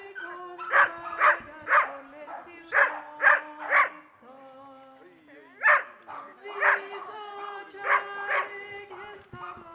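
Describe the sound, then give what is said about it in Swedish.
Several dogs bark in quick clustered bursts, loud, pausing briefly before another round of yaps, with a steady murmur of people's voices underneath, at a devotional gathering with many dogs and their people. “Det var som många hundar och glada människor.”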